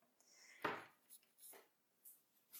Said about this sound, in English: Oh, I need to wash my mug too.